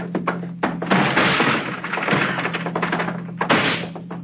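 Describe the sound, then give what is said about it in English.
Someone kicks in a locked wooden door: several heavy thuds in quick succession, followed by a stretch of rattling and scraping noise and one final loud, forceful bang. “It's locked. I don't have a key. All right, I'll kick it in.”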